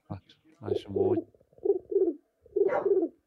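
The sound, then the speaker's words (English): A man's voice imitates a West Midlands pigeon, producing three throaty, rolling coos in a row, each a short burst of low warbling tones separated by brief pauses, fairly loud. “I've told you I can do the best pigeon impression nationwide.”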